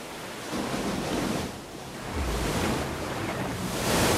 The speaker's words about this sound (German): Bei der Umrundung Kap Horns kämpft sich die Beagle durch haushohe Wellen.